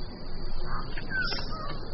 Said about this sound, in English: like this Goldie's bird of paradise. Never filmed before, Goldies are just one of New Guinea's 38 species of bird of paradise, all famed for their spectacular plumage.